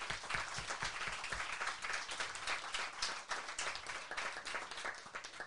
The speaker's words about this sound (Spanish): Te mandamos un fuerte abrazo. Un fuerte abrazo y un fuerte aplauso, por favor.